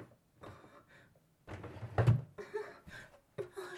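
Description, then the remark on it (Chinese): A drawer slides open with a short wooden scrape and rattle, followed by a few soft clunks and handling noises as things inside shift about while a small toy is fetched from it. “谢谢主人，谢谢主人，就在这个抽屉里呢。”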